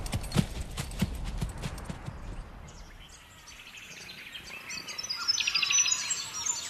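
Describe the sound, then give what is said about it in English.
Horse hooves clip-clop in a quick, steady rhythm, fading after a few seconds as birds chirp and tweet brightly in the background. “We're going to go for a nice long canter up to the bluff.”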